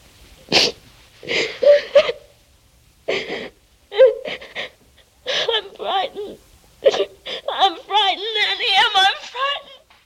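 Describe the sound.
A woman sings through tears, her voice breaking into halting, sobbing phrases with sharp gasping breaths between them, then wavering, trembling notes that swell toward the end.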